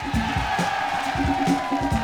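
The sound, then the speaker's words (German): A loud concert crowd roars and cheers continuously for the keyboard player as the band members are introduced, with shouts and whoops rising over a dense wash of noise. “Ist das ein Applaus für …?”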